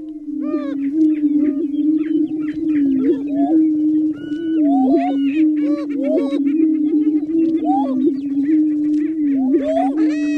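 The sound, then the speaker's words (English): Prairie chickens, an endangered species, booming in their mating ritual, played from Maya Lin's What is Missing? Listening Cone in San Francisco: a continuous low, hollow hum droning throughout, overlaid with frequent sharp cackles, whoops and high chattering calls from several birds, loud and steady for the whole stretch. “Hear from What is Missing, a little bit of this one's an endangered species, one of those, the sound of which comes from the cone, the mating ritual called booming of the prairie chicken.”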